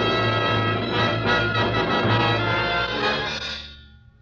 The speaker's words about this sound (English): Church bell? Oh, yes, yes, of course. Church bells are on God's side.